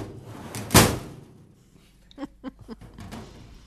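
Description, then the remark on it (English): A loud metallic slam from a file cabinet, used as foley for the gate of an old-fashioned elevator closing, followed after a short pause by four or five lighter rattling clunks as it settles. “And I came up with using a file cabinet for the elevator gate closing sound in one of those old-fashioned elevators.”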